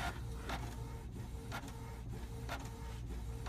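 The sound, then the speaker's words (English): An inkjet printer mechanism runs steadily with a low mechanical hum, punctuated by regular clicks and whirring carriage sweeps roughly every half second, fairly loud, with no voices. “So hold down your stop button and it should go away. Oh, it's up there. Sorry, it's this guy. Sorry. Oh. Got the wrong printer.”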